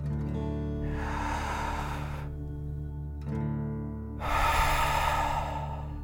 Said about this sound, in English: Again, breathe in through your nose and out through your mouth, pretending you are breathing fire. Deep breath, in and out.